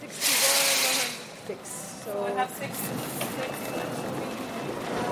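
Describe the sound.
Ambience on a night train from Bucharest to Budapest: a loud burst of hissing air, then brief high squealing tones and a steady mechanical rumble with faint clatter, with indistinct voices in the background.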